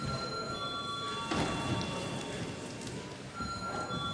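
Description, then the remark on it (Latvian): A parliament chamber bell, called for before deputies vote on adopting a bill in its third reading, rings continuously for about four seconds, a steady, harsh, buzzing ring with sustained high tones and no voices over it. “Lūdzu deputāts balsot par likumprojektu pieņemšanu trešajā lasījumā. Lūdzu zvanu.”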